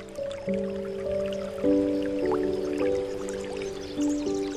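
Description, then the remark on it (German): Fresh, cool water from a small brook, scooped by the handful while kneeling on the bank, trickles and drips through fingers in small, scattered splashes, fairly soft, over a steady, sustained musical drone. “Du lässt es dir durch deine Finger laufen.”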